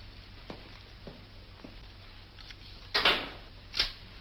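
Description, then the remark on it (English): A light switch is flipped off with a sharp click, followed shortly by a second snap, after several faint soft taps. “Switch off the lights, Watson.”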